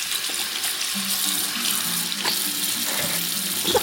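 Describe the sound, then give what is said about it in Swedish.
A tap runs steadily into a sink at a preschool outside Lycksele, a continuous hiss of flowing water with small splashes and faint clinks as a toddler's hands move under the stream while an adult helps the child wash hands after lunch. No one speaks. “Ett barn från småbarnsavdelningen tvättar händerna med hennes hjälp.”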